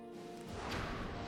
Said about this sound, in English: Why is it exploding? No reason for an explosion.